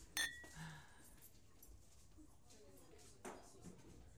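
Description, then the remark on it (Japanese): Two glasses of alcohol clink together once in a toast, a bright ringing tap that fades quickly, followed by quiet ambience and a few soft handling sounds. “よし、それじゃあ乾杯しようか。”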